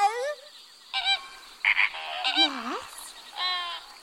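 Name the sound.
parrots squawking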